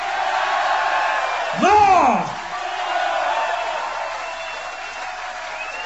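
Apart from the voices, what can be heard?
audience cheering and whooping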